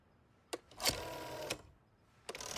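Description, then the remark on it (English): A rotary telephone being dialed one number at a time by Gru, hanging upside down, to call home for a ransom, with a few separate sharp clicks spaced out over a low mechanical whir. Fairly quiet, with no voices. “Still hanging upside down, Gru starts dialing, one number at a time.”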